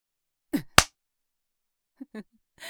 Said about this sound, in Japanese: チンポでビンタされて驚いてるのか。自分よりはるかに大きいチンポでビンタされるって。どんな気持ち？痛そうだな。ビンタの衝撃と同時に男の尊厳を踏みにじられている気分になるだろう。はあ、頬が真っ赤になってるじゃないか。